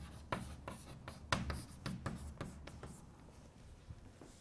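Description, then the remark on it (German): Someone writes on a board during a lecture, a quick irregular series of scratchy, tapping strokes that fade slightly toward the end, with no talking over them. “Schreibe ich mal dahinter, Klassiker.”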